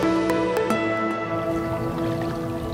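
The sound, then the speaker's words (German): A paddle dips into calm, mirror-smooth water in Mexico City with flowing right, left, right strokes: a few soft splashes early on, then gentle liquid sloshing, all over a steady humming tonal background. “Mit fließenden Bewegungen taucht das Paddel von César Castillo Morales ins Wasser.”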